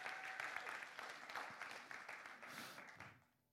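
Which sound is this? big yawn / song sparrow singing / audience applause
audience applause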